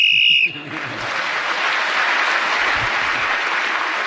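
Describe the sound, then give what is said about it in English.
A game show whistle gives a loud, shrill blast for about half a second while a contestant is speaking, then cuts off as steady, enthusiastic applause from an audience swells up and continues to the end. “Right, so … was speaking as the whistle.”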